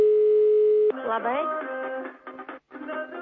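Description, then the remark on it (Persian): A steady electronic telephone ringing tone sounds for about a second over a phone line as Radio Azadi's programme calls a household with New Year greetings, then cuts off as a voice comes on the line, filtered and thin like a call connecting. “خب کوشش میکنیم با منزل دیگر زنگ زنیم.”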